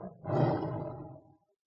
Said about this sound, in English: What are they? They're lions.